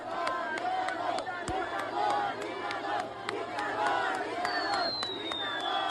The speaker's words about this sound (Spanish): Unos gritan Obrador, Obrador, y otros gritan dictador, dictador. Yo oigo claramente Obrador, dictador es lo que le están gritando.